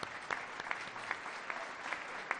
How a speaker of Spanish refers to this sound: Vamos a dar un aplauso.